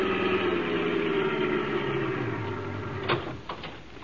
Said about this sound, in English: We jumped into a car and drove over there.